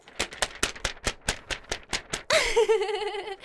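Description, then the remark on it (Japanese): Brisk hand clapping, about ten sharp claps in a steady, quick rhythm, followed by a wavering, high-pitched voice that cuts in loudly at the end. “バシバシバシと拍手をしておりますが”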